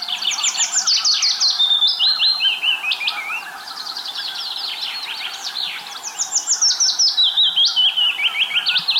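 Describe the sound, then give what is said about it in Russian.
A willow warbler sings its soft descending trill of sweet, high notes, repeated in short phrases, with a chaffinch calling in the background; no voices. “Надо сказать, что есть птица, которая поет очень похоже на зяблика, и их легко перепутать. Это пеночка-весничка.”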